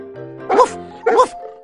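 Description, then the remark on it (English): Two loud, bark-like woofs about half a second apart, voiced by a person imitating a dog, with a soft steady tone humming underneath. “The dog said,”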